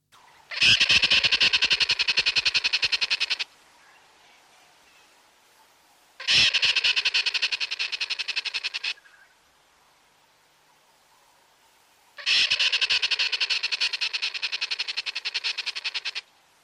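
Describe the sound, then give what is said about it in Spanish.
Squirrel alarm calls in the savanna, warning of a predator such as a leopard, bird of prey or snake, in three loud bouts of rapid, harsh chattering, each lasting about three seconds, separated by short quiet gaps. The grating, buzzy notes repeat in a fast rhythm. “Y mucho más difícil de percibir, pero no por ello menos importante, es el de las ardillas, que no pararán de avisar ante la presencia de algún leopardo, ave de presa o cualquier serpiente.”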